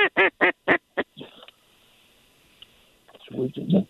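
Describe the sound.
A duck call blows five loud, rapid quacks in a quick rhythmic burst to work ducks, then falls quiet before a man's voice starts talking near the end.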